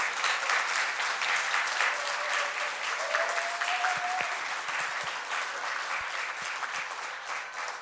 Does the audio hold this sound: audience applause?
yes